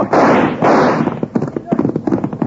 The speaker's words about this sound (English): Did you see that? Cut the rope with his first shot.